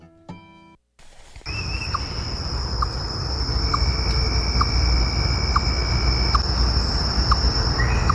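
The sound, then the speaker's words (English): A chipmunk gives a steady series of sharp, repeated chirps about twice a second, clear, over a constant buzz of insects and outdoor ambience, in August. “I think it sounds like a little frog, but It's a chipmunk making a little monk sound.”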